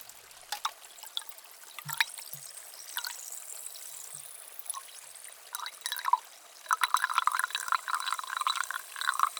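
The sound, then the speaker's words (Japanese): Carbonated water poured into a container to soak cotton swabs for ear cleaning, a bubbly splashing trickle that grows busier and louder toward the end, with no talking. “炭酸水を用意して、綿棒を浸して、では、お耳を失礼いたします。”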